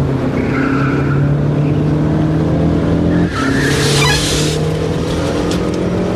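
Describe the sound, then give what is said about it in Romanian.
A car engine roars steadily, then tires screech loudly for a couple of seconds as an ultramodern, latest-model foreign car with pop-up headlights and an electronic dashboard skids into an old, quiet small town, the engine still humming underneath. “E, și iată că într-o bună zi, în acest orășel străvechi și liniștit, a apărut o mașină străină. Ce mașină! Ultramodernă, ultimul tip, cu faruri rabatabile și cu bord electronic.”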